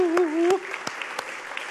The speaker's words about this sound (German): Erstmal, wer das noch nicht getan hat, kann hier ein frisch vermähltes Brautpaar nochmal beglückwünschen. Ja, können wir einmal klatschen oder so.